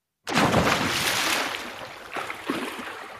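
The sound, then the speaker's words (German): A loud watery splash bursts in suddenly, then fades into a churning, bubbling wash with a couple of smaller sloshes near the end. “Außer du wolltest noch was sagen zu Hamburg, dann war der nein, Sprung ins Wasser zu früh.”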